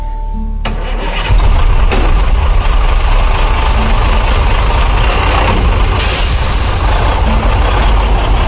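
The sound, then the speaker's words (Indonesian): A heavy military truck engine cranks and catches about a second in, then rumbles on at a steady, loud idle with no voices over it, as the truck sets off in the afternoon for a campsite in the Subang area. “Yang jelas, kami berangkat dengan truk tentara sore itu.”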